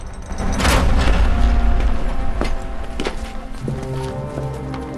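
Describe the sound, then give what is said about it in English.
Heavy rumbling and a deep boom as a procession's cart rolls to a halt at a castle gate, with scattered hoof clops and footsteps, then a low mechanical grinding and creaking as the castle gate is raised. “The procession stops at the castle gate, which lifts open.”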